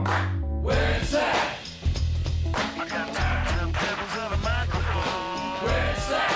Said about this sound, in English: I have heard this song. There you go. Yeah. I don't know that I've classified it as good, but I've heard it. Oh, it's good.